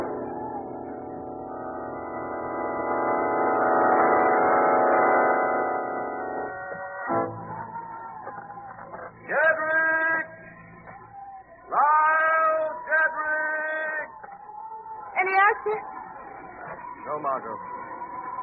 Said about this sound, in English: Only the wind.